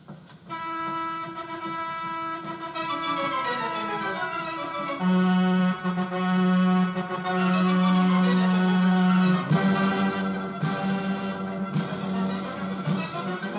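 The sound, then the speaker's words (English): A horn calliope at a carnival, a few steps from the Carnival Midway, plays loud, sustained, reedy tones, with pitches sliding and shifting between notes, then settling into a steady low blast near the end. No one speaks. “There it is, the dulcet tones of the horn calliope, calling you away from the Carnival Midway.”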